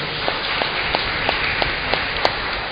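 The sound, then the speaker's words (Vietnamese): A parish audience applauds steadily to congratulate the Phaolô (Saint Paul) parish community, a dense wash of clapping with a few sharper claps standing out at a regular rhythm. No one speaks over it. “Chúc mừng giáo họ Phaolô một tràng pháo tay thật lớn.”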